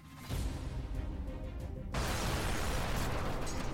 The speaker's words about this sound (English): Engage intro voice. Cue explosions and dramatic music.